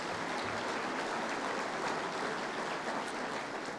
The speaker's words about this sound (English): Let's give Bruce a big round of applause.